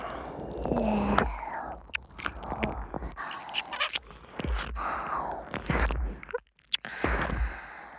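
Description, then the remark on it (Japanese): Wet ear-licking ASMR sounds fill the whole stretch, a steady run of slurps, squishes and soft smacks with breathy pauses, fairly loud, with no talking. “今日は、たくさんペロペロしちゃうからね。”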